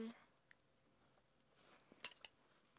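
A metal belt buckle clinks and rattles in a short burst of two or three quick, bright jingles, fairly quiet, after a brief soft rustle, as a belt is being taken off.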